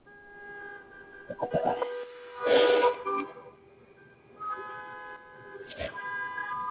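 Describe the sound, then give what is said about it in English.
Busy street traffic in the United States with overlapping car horns honking, some held steadily and others in short bursts, over a rumbling background of passing vehicles and occasional louder surges of noise. “as we take a look at worldwide traffic, here in the States anyway, because it is a madhouse outside, as it usually is, as we prepare for your Monday morning traffic.”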